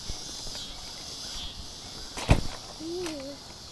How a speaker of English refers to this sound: You hear the crickets? Hi. You hear the crickets? Yeah.